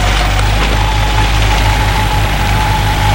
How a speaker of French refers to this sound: Il arrête son scooter.